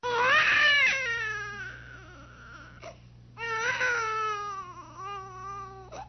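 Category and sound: human body sound, baby crying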